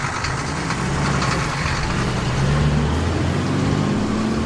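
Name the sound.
truck engine approaching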